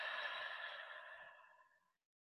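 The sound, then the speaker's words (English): A single long, breathy exhale through the mouth, clear, taken during a guided deep-breathing exercise after breathing in through the nose, steady at first and then fading away over about two seconds into silence. “And together, let's take in a deep breath. In through the nose and breathing out.”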